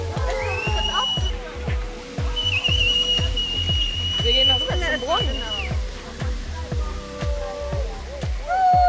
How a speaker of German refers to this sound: Nachdem die Freiwilligen den Platz wieder verlassen haben, fängt plötzlich der Brunnen an zu sprudeln.